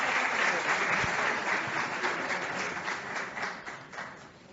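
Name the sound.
audience applause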